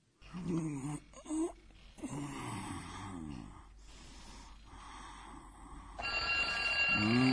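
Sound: alarm clock ringing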